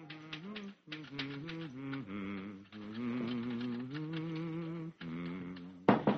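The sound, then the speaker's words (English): Rapid typewriter keystrokes click along steadily, fairly loud, as a man types a play manuscript on a borrowed typewriter in a friend's office, mixed with a sustained melodic tune as he hums the chorus of a song, with a brief pause near the end before a sharper burst. “One day, while sitting in the office of a friend, borrowing the use of a typewriter to type a play manuscript,”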